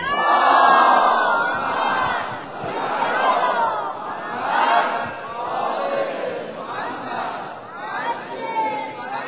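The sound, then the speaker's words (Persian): A large crowd loudly chants the salawat blessing in unison, dedicated to Hazrat Ali Akbar on his birth anniversary and to Imam Zaman, the phrases rising and falling in repeated rhythmic waves across the whole stretch. “نثار قدم‌های علی اکبر حسین و نثار قدم‌های ولی نعمتمون آقامون حضرت امام زمان ارواح نافدا هر جا نشستید صلوات بلند بشه.”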